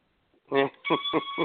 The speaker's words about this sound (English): That's an annoying dog toy. What that is? What is that? You know it is. Is that dog? That's that dog toy. Yeah. Yeah. He's been doing that all day long. He's just chewing on that thing all day long.